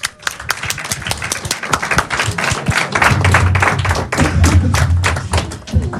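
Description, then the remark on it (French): Audience applause at an improv show: many hands clapping in a dense, steady stream for several seconds, fairly loud, with a low rumble of crowd noise building underneath partway through, as three more people come up to join the performers. “Trois autres personnes qui vont nous rejoindre sous vos applaudissements encore une fois.”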